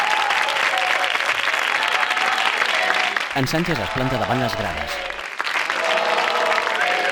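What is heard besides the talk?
audience applauding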